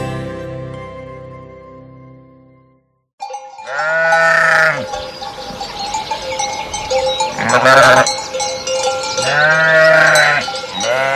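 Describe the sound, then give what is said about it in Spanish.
A fading tonal sound gives way to a brief silence, then a flock of sheep bleats loudly three times in wavering cries over a steady jangle of bells. “Que estamos poniendo borregos porque vamos a hablar precisamente de una de las campanas que se llama así.”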